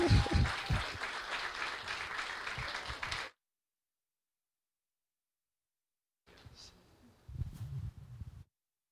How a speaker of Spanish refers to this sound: Gloria a Dios. Un aplauso para los...